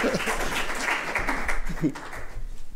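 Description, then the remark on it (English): An audience applauds with a dense, steady patter of many hands clapping for about three seconds, fairly loud throughout, with a few voices faintly mixed in underneath. “Right, everyone, give you a round of applause.”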